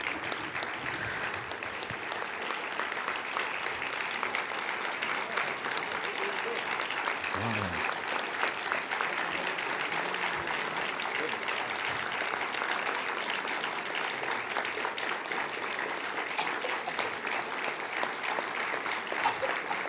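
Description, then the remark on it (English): Sustained applause from a large audience at the National Federation of the Blind fills the whole stretch, a dense, steady patter of clapping at an even loudness, with a faint voice briefly surfacing underneath. “From that applause, I can tell that I am at home at the National Federation of the Blind.”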